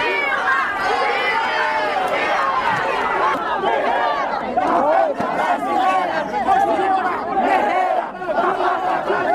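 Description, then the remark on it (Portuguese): A crowd of about 300 protesters outside the presidential palace in Brazil shouts and chants slogans such as "Dilma Guerreira da Pátria Brasileira" and "Volta Dilma" to honour ex-president Dilma, a dense, loud, steady roar of overlapping yells with occasional louder surges. “foi homenageada por cerca de 300 manifestantes que a aguardavam do lado de fora do palácio.”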